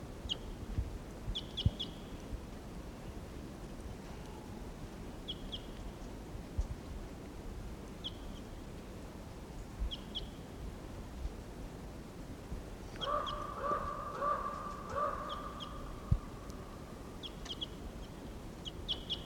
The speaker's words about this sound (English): I took a shot at that wild bird and missed. Now it's about 20 minutes later and he's still here in the trees somewhere. Stop. There's that wild bird.